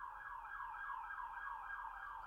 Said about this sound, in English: I hear the siren getting louder, getting closer to me. And thank God it's going away from me. You don't like when the siren stops and it's like, you know, next to you.